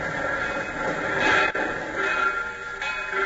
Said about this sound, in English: It is past midnight as his train pulls into Carbondale, Illinois, some 20 miles from the Logan home in Marion.